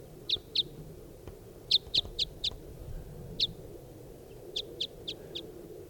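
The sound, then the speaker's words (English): A type 5 bird right above a camp repeats short, sharp high-pitched calls in small clusters of two to four notes, clear above a steady low background rumble. “Here's a type 5 bird right above the camp.”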